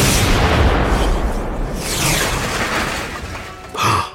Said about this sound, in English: The light in the dark sky looked like a ball of fire now. It's going to hit the ground! Shouted Biff. There was a booming sound as the fireball landed on the far side of the barn.